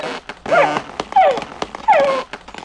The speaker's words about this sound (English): Floppy barked and barked.